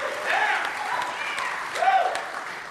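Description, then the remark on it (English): A small crowd, a live studio audience at Soma Church and Day Spa, claps and cheers steadily for a few seconds, with whoops and excited voices rising over the applause throughout. “So let's clap it up for our live audience.”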